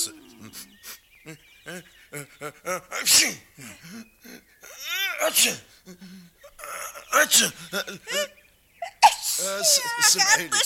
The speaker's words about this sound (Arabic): عطستني معاك أنا ثاني يوم